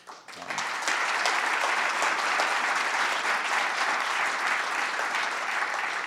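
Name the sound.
audience applause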